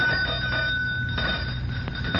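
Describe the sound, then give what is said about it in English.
A pull doorbell rings steadily and continuously, its bright metallic tone held throughout over a low background rumble. No one speaks. “Don't keep ringing the bell, son.”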